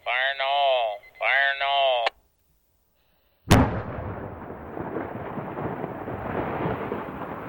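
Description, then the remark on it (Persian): Two long warning horn blasts, a moment of silence, then a single sharp quarry rock blast, fired after a countdown, that cracks loudly and rolls into a sustained rumble of rock breaking away from the mountain and falling. “اگه با هر انفجار قلبتون به تپش نیفته یعنی باید بگم که زنده نیستید.”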